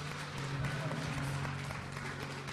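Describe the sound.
An audience at a church worship service gives God a rising round of applause, a steady, dense wash of clapping that holds at an even level throughout, with a low murmur of voices running underneath.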